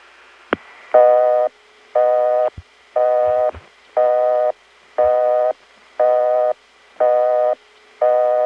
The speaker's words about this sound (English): Right, just a regular busy signal. My favorite independent tone plant,